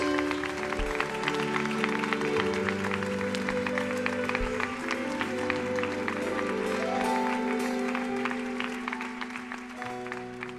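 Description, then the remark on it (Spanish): An audience claps steadily for about ten seconds in applause offered to 'our King', a dense, sustained patter of many hands over a held musical tone, fading slightly toward the end. “Demos un aplauso a nuestro Rey.”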